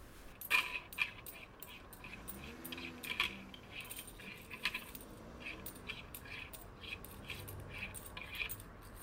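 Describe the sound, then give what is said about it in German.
Loose coins jingle and clink continuously for several seconds, a busy metallic rattle of many small pieces being shaken or sifted, with no one speaking. The coins are 18.36 euros in small change, including a 20-cent coin from Malta. “Hey, Mann, das sind 18,36 € in Kleingeld, ey.”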